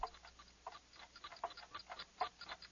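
Many clocks, probably about 300, tick at once in a clock shop, their overlapping clicks forming a busy, uneven clatter with no single steady beat. The ticking is fairly quiet, with no voices.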